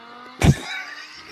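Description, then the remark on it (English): A short, thin-sounding phone recording of four Lamborghini supercars driving by on William Nicole: a sudden loud engine burst, then a lingering high-pitched whine that fades over a second, with no talking. “But, I mean, it was 4 Lamborghinis on William Nicole. That sounds like a Prius.”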